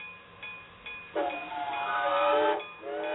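A steam train's whistle sounds loud, a sustained shrill tone held for over a second, with steady hissing steam surrounding it before and after; no one speaks.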